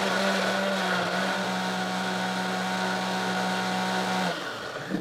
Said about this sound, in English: So we just want to put everything in this blender, and hopefully the blender cooperates.